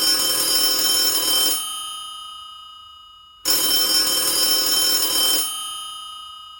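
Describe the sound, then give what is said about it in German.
An old-fashioned 1970s telephone bell rings twice, each burst a loud metallic trill lasting about a second and a half, with the ringing tone lingering briefly before a pause. Clear, no voices. “Schön, dich zu hören, vor allem hier an meinem Telefon aus den 70er Jahren.”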